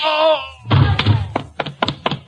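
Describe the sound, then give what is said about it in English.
A brief tonal sound fades out, then a heavy thud is followed by a quick, uneven run of about six sharp knocks on a door. “Somebody at the door.”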